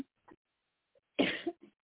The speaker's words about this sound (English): I'm glad when this cough is completely gone. It is getting better.